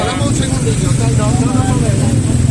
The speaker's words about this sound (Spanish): Está aquí la moto, no sé si escucha.